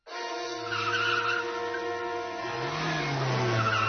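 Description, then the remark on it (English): During a car chase, a car skids hard, tires squealing over a roaring, shifting engine for about four seconds straight, then hits a fence. It's loud, with no voices. “Phew, I think I've lost him. Great, lose the bad guys, hit a fence.”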